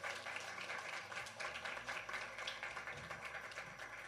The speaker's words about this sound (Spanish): Aplausos.